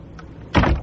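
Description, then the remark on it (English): A door is opened to let in police with a search warrant, a short, fairly loud burst of latch and hinge noise rattling briefly after a moment of quiet room tone. “Open the door.”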